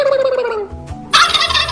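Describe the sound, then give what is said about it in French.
A person imitates a turkey's gobble as if gargling, a warbling gurgle that slides down, pauses briefly, then bursts into a loud, rough rattling call. “C'est les animaux qui parlent et c'est moi qui fais la dinde.”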